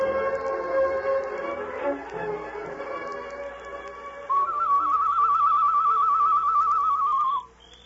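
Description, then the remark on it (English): A high, warbling whistled bird call, used as a signal, trills steadily for about three seconds, rising above a murky bed of background music before cutting off abruptly. “Him not answer bird call.”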